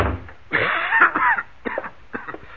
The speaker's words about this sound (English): Hey, you got an awful bad cough there,